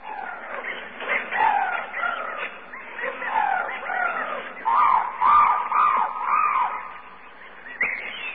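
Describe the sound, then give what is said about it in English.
A dense chorus of tropical birds squawking and chattering, with overlapping shrill calls running continuously and fairly loud throughout, no voices present. “Ah, tropical birds.”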